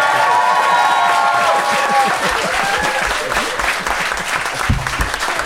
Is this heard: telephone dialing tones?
no